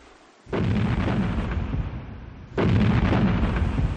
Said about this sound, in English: I remember the battleship Texas firing broadsides at the shore while we were close by. Oh, it was god-awful, terrible explosions, muzzle blasts in our ears when they fired.